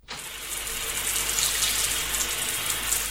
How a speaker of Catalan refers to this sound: Que es converteix en una dutxa normal i corrent.